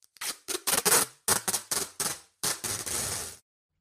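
Duct tape is pulled off the roll in a series of short, loud, crackling rips, ending with one longer continuous tear, with no voices.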